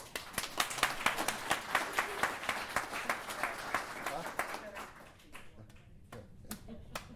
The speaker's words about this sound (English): She said it's better to clap before, right? Well, if you like it, you can clap afterwards.